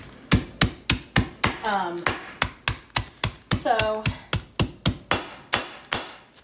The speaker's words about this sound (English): So I'm gonna use the mallet here that we use to like crush meat. So I'm just kind of like crushing them. They're in a bag. They're not getting all over the place. So I'm just kind of crushing them up just so I can put them in the fudge.